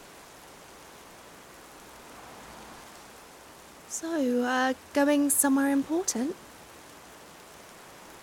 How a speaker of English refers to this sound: Damn. Can you believe this? It's raining cats and dogs. I said the rain has picked up quite a lot. I wish I brought an umbrella. Yeah, the weather app didn't say it was going to rain this hard. At least we're safe here under the bus stop, right?